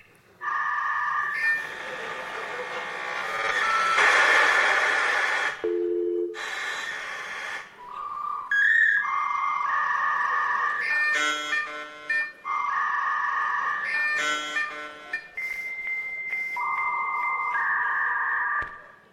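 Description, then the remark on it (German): Opera voices imitate a dial-up modem handshake, with sustained piercing tones, abrupt pitch jumps, warbling beeps and hissy static-like bursts, loud, continuing for about twenty seconds without talk. “eigentlich dachtest du ein anderes lustiges Opernvideo, wo es sozusagen um Modemgeräusche ging?”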